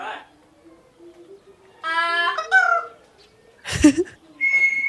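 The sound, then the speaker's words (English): A parrot named Greg, who lives in an office, gives a couple of bright, warbling whistles, then a harsh, raspy squawk, followed by another short whistle, all fairly loud with quiet gaps between. “you have to get it from the parrot”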